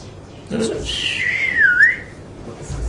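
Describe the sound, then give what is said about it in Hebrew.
A person whistles to mimic a snake's hiss: one long, thin tone lasting about a second that dips in pitch and then rises again, heard on its own without any talking. “הנחש שורק, נכון? נחש שורק.”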